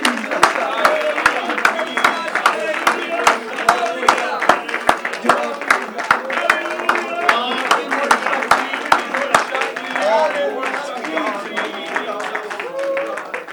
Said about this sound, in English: Oh, let's clap our hands unto the Lord here tonight. God, we worship you.